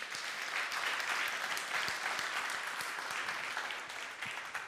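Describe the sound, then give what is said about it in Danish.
A crowd claps steadily, a dense, even patter of many hands that holds at a fairly constant loudness for several seconds with no voices on top. “Så vi ikke klapper”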